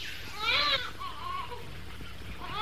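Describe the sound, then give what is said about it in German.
A baby wails in strained, high-pitched cries that rise and fall, with a loud burst early on followed by shorter, softer whimpers and a fresh cry starting at the end. “Ihr wisst, was dieses Schreien bedeutet.”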